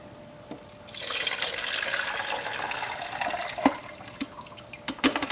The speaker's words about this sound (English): I'm just going to go ahead and dump this in my beaker.